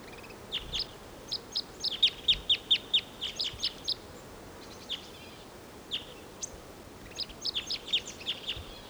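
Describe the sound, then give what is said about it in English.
A wild male bird sings in song flight, a fast series of bright, high chips and trills, several phrases in a row with short gaps, over a faint low rumble of background noise. “There's a singing male in the distant tall ponderosa pine.”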